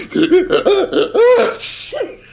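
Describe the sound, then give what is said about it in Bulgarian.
A rapid run of loud, voiced sneezes, four or five in quick succession with a breathy hiss between them, alone, sounding like a person performing an exaggerated sneezing fit. “Той киха по 50, 100 пъти подред.”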